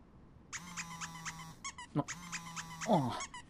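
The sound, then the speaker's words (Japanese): A mobile phone rings with an incoming call, bright, repeating electronic tone pulses over a steady low vibrating buzz, sounding in two bursts with a short break between, fairly loud and with no voices. “俺の携帯だ。”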